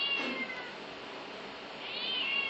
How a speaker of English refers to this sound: Oh my god, cat!